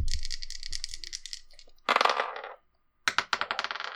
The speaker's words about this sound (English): Let's try a different set of dice.